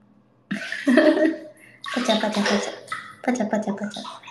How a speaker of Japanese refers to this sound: パチャパチャ。追い炊きを止める音、バレた。